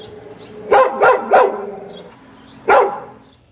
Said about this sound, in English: I'm going to say he's barking at that bird. The bird's in the tree. He's looking that bad. Like, get out of here. So, yeah, we're all saying the same thing. That's a guard bark.